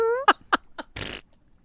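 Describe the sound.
A cartoonish fart sound effect: a squeaky rising tone, three quick sputtering pops, then a longer, raspy blast that fades out. Loud and close, with no voices.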